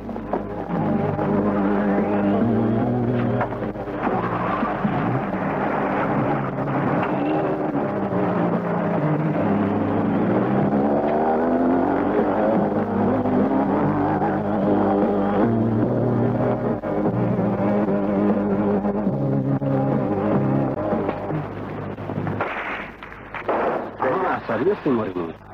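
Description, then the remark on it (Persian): A fast motorboat engine roars loudly and steadily for about twenty seconds, its pitch shifting as it speeds along, with voices mixed in before the noise breaks up near the end. “بابا کی میتونه به همچین قایق موتوری سریعی برسه؟”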